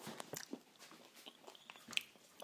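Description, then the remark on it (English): Someone chews a crisp cookie, with a run of sharp, irregular crunches and soft mouth noises in between, and no talking. “Cookies go, it's not bad. I hate the really sweet ones.”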